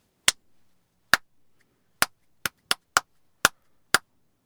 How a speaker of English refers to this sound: she asked people to tap out rhythms to songs that they had in their heads